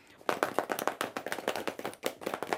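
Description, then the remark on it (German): A group drums pens on pencil cases laid on their knees, a dense run of sharp, crisp taps that overlap in a quick, uneven patter, keeping up steadily after a short quiet start. “Nehmt euch doch mal alle Stifte in die Hand und legt euer Federmäppchen auf die Knie.”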